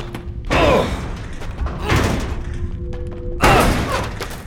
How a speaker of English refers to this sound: We're gonna try to break the door down. Get back.